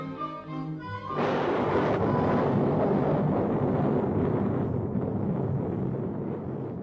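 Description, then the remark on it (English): A brief stretch of tonal, musical notes gives way at about one second to a sudden loud crash of thunder from an approaching storm in the forest in Bambi, which rolls into a heavy, sustained rumbling roar that slowly eases toward the end. “The threatening storm sends Bambi dashing for cover.”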